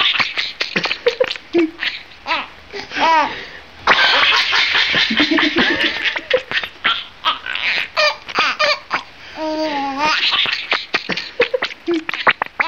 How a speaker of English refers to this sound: When you see him do it, and we put a video on our website, radiolab.org, when you see him tickle a rat and the rat kick its little rat legs and chirp like mad, it does look like the animal is cracking up. Like a little kid.